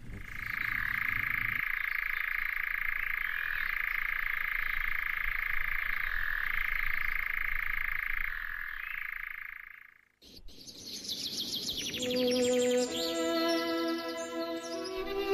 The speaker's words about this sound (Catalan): Doncs acabem tornant a escoltar el cant ben curiós d'aquest ocell, l'enganyapastors.